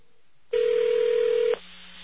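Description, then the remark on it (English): A single one-second electronic telephone ring from an electronic switching system (ESS), a steady pure tone, sits over a constant bed of hissy line static from the connection that carries on before and after it. “And that's what's basically known as static on the line, as an electronic ring.”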